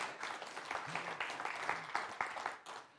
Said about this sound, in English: We have conquered a brand new country for C3. There was no C3 in Liberia, and now there is. Hey, I reckon it's worth a clap.